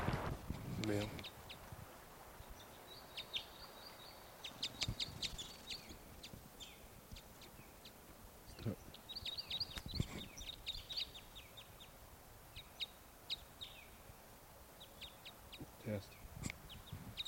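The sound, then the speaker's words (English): A male bird, numbered bird 713, calls in repeated short, high-pitched phrases, separated by pauses and mixed with sharp clicks and handling knocks over a steady background hiss. “Just got that bird, male, and he'll be bird 713.”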